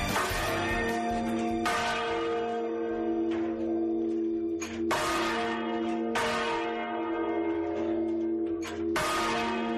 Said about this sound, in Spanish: Así, con la música de Paula, una de las campanas de la Catedral de Mondoñedo, ponemos punto y seguido a la información aquí en COPE, en este caso local y comarcal, desde el programa Costa Viva.